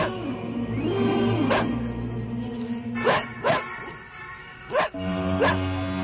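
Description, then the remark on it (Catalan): A dog from a flock barks several times in the distance as night falls in fog, with irregular, spaced-out woofs at about 1.5, 3, 3.5, 4.8 and 5.5 seconds over a steady rural background hum. “Veient com la nit guanya terreny i que la broma s'espaceix més i més, el territori que ara trepitjo no és tan salvatge i no trigo a sentir els lladrucs llunyans d'un gos, d'algun ramat.”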